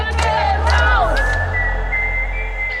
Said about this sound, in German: Das ist ihr Gemeindehaus, ihr Mittelpunkt des Ortes sozusagen. Und die haben einen Sprechchor angestimmt und schreien Wölke raus.